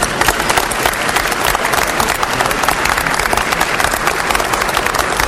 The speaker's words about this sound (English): Give them a round of applause, please, for their great work.